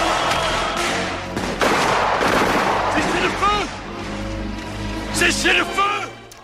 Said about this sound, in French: Explosion !